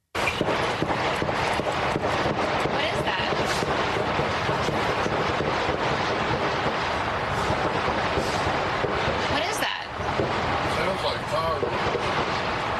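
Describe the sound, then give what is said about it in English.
A sustained barrage of pistol gunfire at the White House as the Secret Service shoot a man who opened fire on them with a pistol, dense and crackling with rapid overlapping shots that barely let up, loud throughout with indistinct voices mixed into the din. “They kill him. Big barrage of gunfire.”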